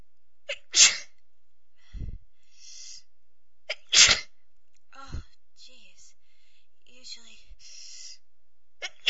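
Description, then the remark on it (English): Two loud, explosive sneezes a few seconds apart, with sharp inhales and softer breathy sounds in between and a quiet pause afterward. “It might not sound like a lot to you guys, but I was sneezing my head off before I even was able to get to the computer, and I thought I'd try to capture as many as I could before I stopped.”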